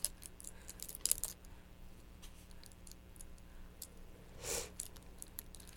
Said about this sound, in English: Say, hey, those keys are hitting me, Mom. He's hitting me with keys.